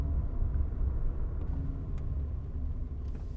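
An electric car's low-speed warning sound, heard below 30 km/h as the car reaches a parking lot: a steady low synthetic hum blended with the rumble of the car rolling slowly, continuous and fairly loud, with no one speaking.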